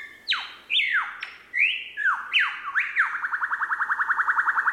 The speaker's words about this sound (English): Or the lyrebird. How can you not be enchanted by the lyrebird?